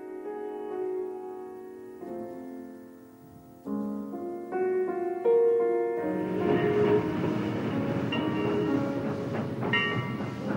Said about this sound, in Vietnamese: Hai chị em chờ không lâu, tiếng còi đã rít lên và tàu dần dộ đi tới.